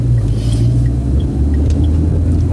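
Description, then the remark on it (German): A heavy truck (LKW) rumbles along the street, wanting to pull ahead, its deep, steady engine drone filling the low end for the whole stretch, with faint higher chirps and clicks scattered above. No one speaks. “So, da kommt noch irgendwie LKW, der möchte gerne vor.”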